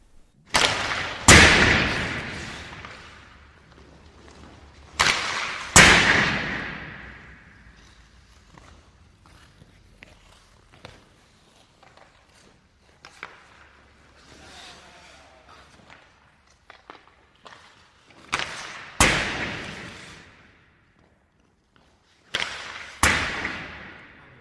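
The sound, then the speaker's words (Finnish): Loud, sharp cracks of ice hockey slap shots recorded in an ice hockey arena, about six of them at irregular intervals, each ringing out in an aggressive, gunshot-like echoing tail, with fainter knocks and scrapes in between. “Joo, se oli lämärin ääni.”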